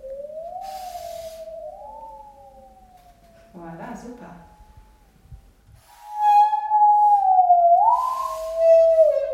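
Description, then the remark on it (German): A musical saw, bowed along its top edge perpendicular to the blade and flexed while the tone sounds, sings in a wavering, eerie tone that slides slowly up and down, swelling louder near the end, with a brief spoken interjection partway through. “um die Säge zum Klingen und Singen zu bringen”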